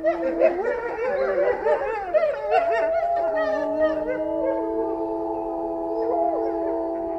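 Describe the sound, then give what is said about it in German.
Several wolves howl together in a long, overlapping chorus, sustained tones wavering and gliding against each other, with yelps and short yips early on before settling into steady held howls. “Welches Tier suchen wir? Ich sage es dir, es ist der Wolf.”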